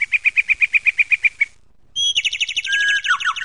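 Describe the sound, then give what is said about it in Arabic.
Small birds chirp in a park as they fly in the sky: a quick, even run of about a dozen bright chirps, a short pause, then a denser burst of twittering and trilling calls. No voices. “لم يجد عدنان وتنزيل إلا صوت العصافير تزقزق فرحا وهي تطير محلقة في السماء”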